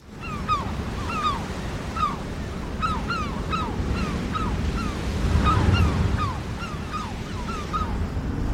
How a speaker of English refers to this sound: There's a long, greasy swell basically coming from the southeast this morning. The sea itself is a sort of muddy green colour. Looks pretty cold. And where it's breaking against this cliff face, there must be a cleft, and every sixth or seventh wave